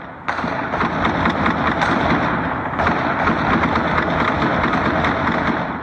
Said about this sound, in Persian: با پخش یک ویدیو از طریق فیسبوک ادعا کرده که شام جمعه این تیراندازی برای 20 دقیقه در منطقه خوشحالخان مینه در کابل ادامه داشت.